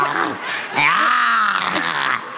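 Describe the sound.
A person imitates a tiger's growl: a drawn-out, throaty vocal snarl that swells and bends in pitch, then trails off into a rougher rasp, with no other voices around it.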